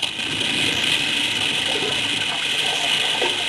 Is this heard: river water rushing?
yes